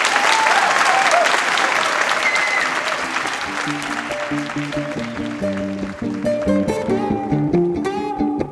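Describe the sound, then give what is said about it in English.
A large audience claps warmly in a dense, steady burst of applause for a solo musician on stage, which continues as plucked and bowed musical notes begin rising over it partway through. “So I'd like to have a warm round of applause for”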